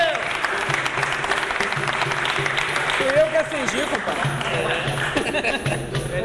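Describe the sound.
Steady, dense applause fills the whole clip at a fairly loud, even level, with voices calling out and talking over the clapping partway through.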